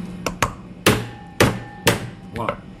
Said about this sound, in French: Alors, un petit coup de marteau sur la pince. Qui permet donc, sans l'écraser, alors on va le faire en direct.